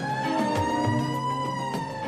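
A siren blares continuously, a bright, steady, tonal wail sustained for the full two seconds with no speech over it.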